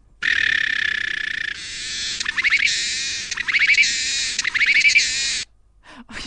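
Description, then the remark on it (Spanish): A male Asian cicada's courtship song: a loud, high-pitched buzz that breaks into rhythmic, warbling, almost bird-like phrases, then stops abruptly after about five seconds. “Vamos a escuchar un canto de cortejo de una cigarra asiática macho.”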